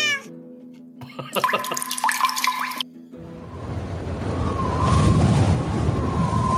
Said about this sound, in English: Someone's windy cat is having a piss. There's a cat on the table.